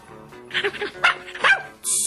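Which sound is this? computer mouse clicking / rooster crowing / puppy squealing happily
puppy squealing happily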